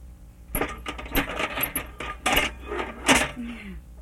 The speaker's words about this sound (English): you want to put the keys in the box? Want to put the keys in the box? Bang.